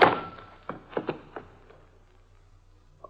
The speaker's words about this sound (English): I hang up the phone and start to turn around just in time for whoever sneaked in behind me to lower the 6 o'clock boom. I feel the thud. Oh! And somebody pulls the blackout curtains inside my brain.